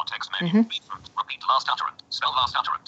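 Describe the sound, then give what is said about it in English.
An Android TalkBack screen reader's synthetic voice rapidly announces its menu, opened by holding the menu key on an Android phone's keyboard, in short, clipped bursts of speech, fairly clear with a slightly tinny, phone-like tone and no other talking. “And to prove that, if I hold down the menu key on the keyboard, now we've got the talkback menu that you may be familiar with.”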